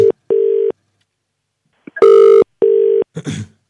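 Repeated telephone ringback tones of an outgoing call: loud, steady beeps in a regular on-off rhythm with short pauses, followed by a brief burst of noisy rustle at the end.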